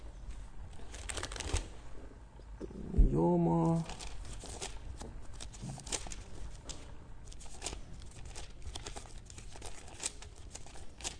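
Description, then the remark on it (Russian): Paper pages of a copy of the tractate Yoma rustle and flip in quick, uneven bursts as someone looks for a page, a steady crinkling shuffle that runs the whole time, with a brief spoken word partway through. “Сейчас я найду, какая страница.”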